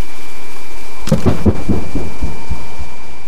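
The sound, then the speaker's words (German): A deep, booming underwater explosion from a seismic air gun used to search for oil erupts suddenly, barely audible at the surface but very loud below it, followed by a rumbling series of low pulsing thuds that gradually fade into a dull roar, with no voices. “An der Oberfläche kaum hörbar, doch unerträglich laut unter dem Meeresspiegel. Die Explosionen, mit deren Druckwellen nach Öl gesucht wird.”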